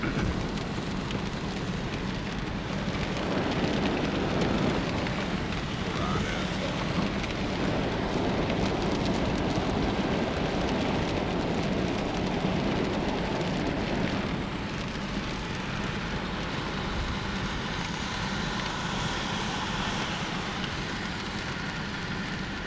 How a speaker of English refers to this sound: That was a very intense storm. It's looking a little clear now. Still raining